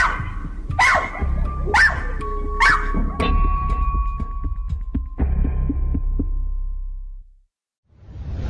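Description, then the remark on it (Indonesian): A dog barks four or five times in sharp, loud bursts over a low, throbbing rumble, then everything drops to a short silence before the rumble returns; no one speaks. “Sekarang, dia kembali menggonggong.”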